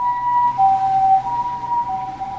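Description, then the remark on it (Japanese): An ambulance siren sounds steadily as the ambulance turns left, alternating between two high tones in a hi-lo pattern, prominent with faint road noise underneath and no talking. “救急車が左に曲がるそうです”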